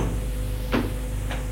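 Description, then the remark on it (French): A door opens with a short creak and clunk, followed by a softer second knock a moment later, over a steady low room hum with no voices. “La porte est ouverte”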